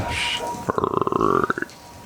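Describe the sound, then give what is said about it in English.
A voice imitates a low, throaty croaking creature, said to sound like a boggard, heard beyond a door past dripping: a rapid rattle of guttural pulses lasting about a second, ending in a few slower croaks, after a short breathy hiss. “as Benson opens this door, beyond the dripping, you actually hear a low croaking.”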